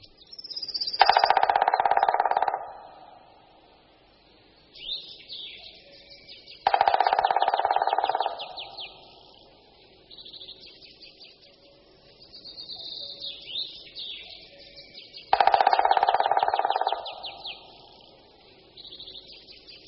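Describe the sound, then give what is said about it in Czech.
Three loud, rapid drumming rolls from a black woodpecker striking resonant branches and tree trunks, each lasting about two seconds and separated by pauses, with faint bird chirps in the background between them. “Poslechněme si toto bubnování, které je poměrně dlouhé, silné, ale pomalejší než u strakapoudů.”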